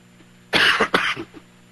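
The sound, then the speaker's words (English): A harsh cough from an ice hockey game commentator bursts out twice in quick succession, followed by a short rasping throat clear, with no one speaking alongside it. “Pardon me in advance for the coughing.”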